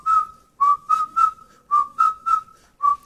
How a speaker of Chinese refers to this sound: 从来没有男生对我吹口哨，所以我放这样的音乐给自己听。